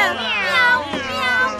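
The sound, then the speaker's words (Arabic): A cat lets out a long, wavering meow lasting over a second, fairly loud, its pitch bending up and down before trailing off, during a ball game in an alley. “مياو، لا يستطيع أن يلحق بي.”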